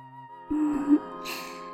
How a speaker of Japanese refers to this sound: ご主人くんもなんだ。あくび出てるもの。